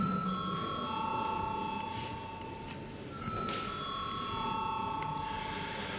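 A parliament voting bell, called for by the chair before a vote on urgency for a bill amending the State Civil Service Law, sounds as a steady, sustained electronic tone with several layered high pitches. It holds for about six seconds at moderate loudness, with no talking.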